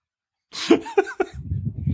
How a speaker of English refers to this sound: I was having a coughing fit because I so wanted to say, but you can't sit on the floor and play Werewolf here.